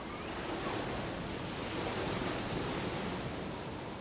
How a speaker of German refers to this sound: Weiße Gischt fliegt durch die Luft. Die Wellen spülen dicke Seile aus Seetang und Quallen an den Küstensaum. Die grauen, regenschweren Wolken vereinigen sich am Horizont mit der wild wogenden Urgewalt des Indischen Ozeans.